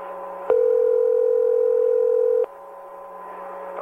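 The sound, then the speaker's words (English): A telephone dial tone on a phone call being initiated and recorded hums steadily for about two seconds, starting and stopping with sharp clicks, followed by a quiet line hiss with no voices. “At Sutton and the Shiflett's request, he agreed to initiate and record a phone call”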